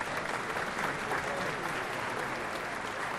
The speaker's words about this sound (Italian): Oggi diverse migliaia di cittadini hanno mostrato il loro sostegno agli studenti e pagato un tributo alle vittime, con 16 minuti di silenzio seguiti da un lungo applauso.